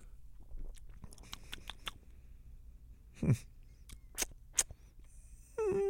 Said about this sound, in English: No, I'm gonna try this Celsius you got me though. It tastes almost like a retro vibe. Have a little sip.